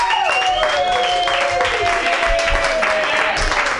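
A loud, sustained round of applause from an audience, dense and steady for several seconds, with a few drawn-out high tones riding over the clapping.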